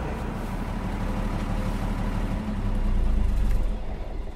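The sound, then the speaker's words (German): A small boat engine chugs steadily as the boat slides over a shallow ridge on its way to the harbour at Pellworm, a low continuous rumble with a rhythmic throb that swells slightly louder toward the end. No voices. “Ja, und jetzt müsste das gerade so gehen, dass wir jetzt über den Strick rüberrutschen. Ne? Deswegen heißt unser Boot ja auch Strickrutscher.”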